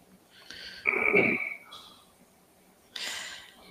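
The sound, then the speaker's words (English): A dog named Boo gives a sharp, snorting sneeze with a brief high wheezy whistle, then a second breathy snort follows a couple of seconds later. Both are moderately loud and there is no talking. “Boo's sneezing in the background.”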